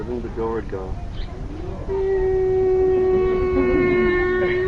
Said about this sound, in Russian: Это был звук, который производила дверь. И Джатила слышала этот звук.